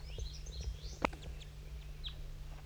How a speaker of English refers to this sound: There's also another crossbill in this these goldfinches. Two crossbills and a flock of goldfinches.